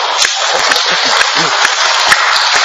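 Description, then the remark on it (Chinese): A group of people clapping their hands together as an exercise, a dense, steady patter of many overlapping claps with a few sharper hits, with faint voices murmuring underneath. “OK， 咁跟住咧，我哋一就拍手掌喎。”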